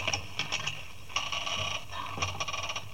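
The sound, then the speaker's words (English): A rusty door lock grinds and clicks as it turns, several harsh ratcheting scrapes in uneven bursts with a steady low hum underneath, no voices. “Confound it, this lock must be rusty.”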